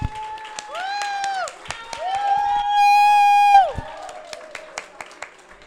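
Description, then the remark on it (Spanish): An audience claps in an uneven, scattered patter while voices whoop and cheer over it, one high shout held loudly through the middle before the applause thins out, at a Locomics event in the Ignacio Iglesias comics library in Barcelona. “¡Aplausos para Locomics!”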